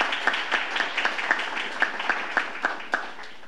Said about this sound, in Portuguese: Uma salva de palmas para esse grande guerreiro da cultura.